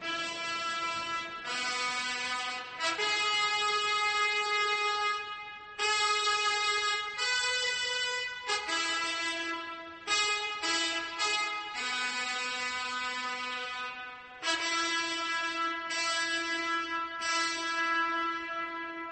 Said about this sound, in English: Suddenly, a peal of trumpets.